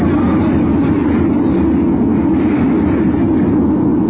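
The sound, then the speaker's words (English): A heavy wave crashes over a crowded lifeboat in raging seas, a loud, steady roar of churning water that holds for several seconds without letting up. No voices. “a crowded lifeboat still afloat in the raging seas.”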